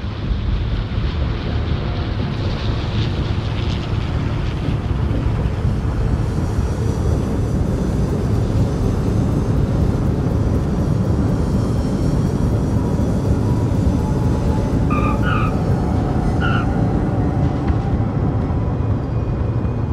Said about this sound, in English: The plane land.